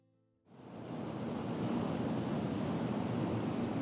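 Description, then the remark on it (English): Ocean surf swells in after a brief quiet moment, settling into a steady, full wash of waves breaking and rolling on the shore, fairly loud, with no voices. “There's few more evocative sounds than the lapping of the tide and waves crashing against the shore.”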